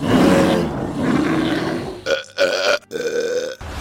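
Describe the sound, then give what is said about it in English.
A voice imitates a giant CGI wolf as someone changes into it: a loud, raspy roaring growl for about two seconds, then three short strained howling bursts with brief gaps between them, forceful. “Why are you changing into a giant CGI wolf”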